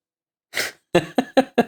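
A short burst of coughing: one breathy, raspy hack followed by four quick, sharp coughs in a steady rhythm, fairly loud, with no talking.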